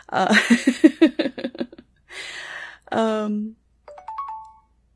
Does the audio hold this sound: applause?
no